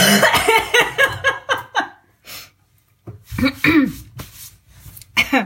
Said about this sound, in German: Hust.